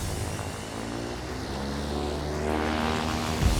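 propeller airplane engine

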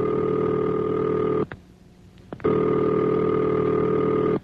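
telephone ringing signal

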